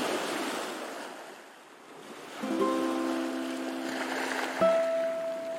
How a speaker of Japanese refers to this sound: 世界の楽園ハワイ。青い空、白い砂浜、太陽が彩る眩しいコントラストの間を透き通った波が軽やかに踊っています。